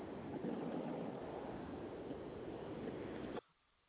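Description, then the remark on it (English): A steady, loud roar of ocean waves and surf, broad and rushing like wind, holds for a few seconds with no talking and then cuts off abruptly. “I heard the ocean.”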